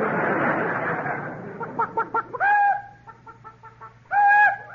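A chicken clucks in a quick series of short, choppy clucks, then lets out two drawn-out, squawking calls, following a burst of rushing noise at the start.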